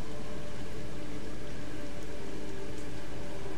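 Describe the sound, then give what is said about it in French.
Heavy rain pours down in a steady, dense hiss that stays loud and unbroken throughout, with a faint low tonal drone running beneath the downpour. “Et la fenêtre se referma brutalement, pendant que les frites du vent et les flaques de la pluie se confondaient dans un assourdissant tapage.”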